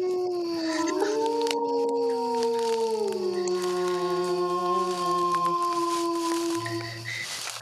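sound effect, wolf howl sound effect

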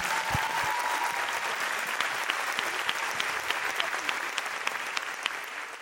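crowd, applause

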